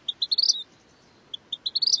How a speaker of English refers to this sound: So I go on Google, I'm like, vermilion flycatcher bird song. And it's a very, very beautiful whistle. And it is very distinct.